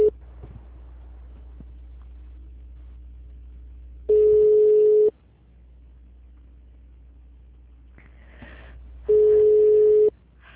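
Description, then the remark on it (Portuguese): A telephone busy signal from an engaged phone extension, heard on a call to the personnel department of Vixologística, over a low, steady line hum: two long, even, mid-pitched beeps, each lasting about a second, separated by several seconds of quiet. Nobody speaks. “Eles estão com o ramal ocupado.”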